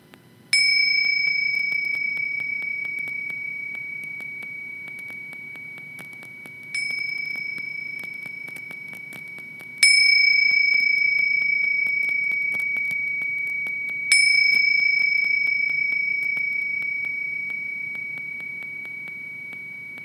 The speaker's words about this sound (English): And I'm going to ring some bells, and you can follow with your attention the sounds of the bells until they stop.